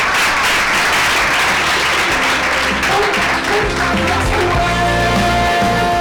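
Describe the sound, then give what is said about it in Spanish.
Loud, sustained applause from a group, sending off guests from IES General de las Heras, dense continuous clapping filling the whole stretch, with music-like tones emerging underneath toward the end. “Pues despedimos con un fuerte aplauso a nuestras compañeras, amigas del IES General de las Heras.”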